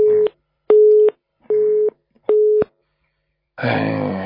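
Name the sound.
telephone busy tone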